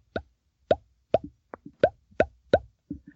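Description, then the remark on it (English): A voice imitates a bull's glunk call with the lips: a series of about eight hollow, wet plopping pops at a steady, moderately quick rhythm, each short and punchy, heard alone without talk. “And you can regulate the speed. And that sounds like a glunk.”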